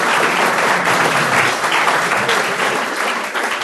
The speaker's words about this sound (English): Round of applause